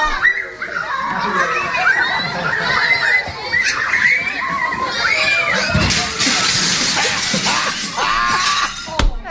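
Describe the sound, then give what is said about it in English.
A crowd of children at a party chatter, squeal and shout over each other without pause as the Jersey Devil mascot runs full speed into a gigantic glass window, with a sudden loud burst of shattering glass partway through as he crashes through it and another sharp crash at the end. “You hear the kids?”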